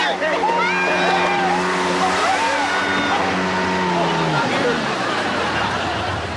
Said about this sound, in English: What's that? What's what? I hear a motor. It's coming from over there.